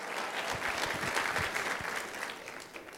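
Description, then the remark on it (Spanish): An audience claps together in a steady, dense patter of many hands, holding a fairly even level before thinning out slightly toward the end. No one speaks over it. “Lo veo poco animado a dar aplausos hoy.”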